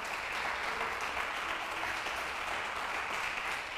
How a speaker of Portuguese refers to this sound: Dá um aplauso aí, ó. Isso. Mais forte.